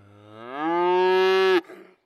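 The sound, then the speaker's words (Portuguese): A single long cow moo, rising in pitch and swelling to a loud, steady bellow before cutting off abruptly, heard alone. “E a vaca de bobeira.”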